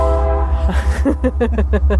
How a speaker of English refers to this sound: Hello, train. We're getting all the Sackville noises today.